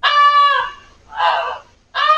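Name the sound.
goose honking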